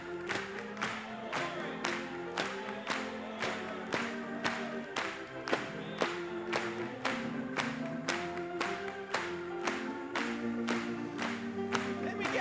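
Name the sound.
audience applauding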